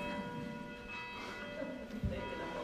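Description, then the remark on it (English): A bell chimes with a sustained, ringing tone that hangs steadily in the air, fairly faint and heard on its own against a low background rumble. “Yeah, last week it was only two chimes, huh?”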